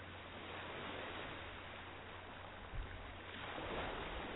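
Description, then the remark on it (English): A steady, soft wash of ocean waves, a continuous rushing hiss that swells slightly toward the end, heard alone without any voices. “Focus on the waves.”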